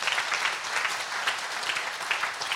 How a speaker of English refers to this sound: Entonces, dame un aplauso al Señor, está bien. Round of applause to the Lord.